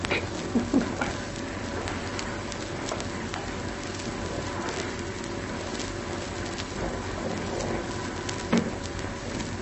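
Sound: rain falling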